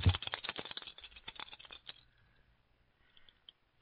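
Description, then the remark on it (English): Dice rattle busily in a cup for about two seconds, a rapid clatter of small hard clicks, then after a pause a few light taps as they land. No one speaks. “they cast lots. Who speaks? The thief to the left. Give me the dice.”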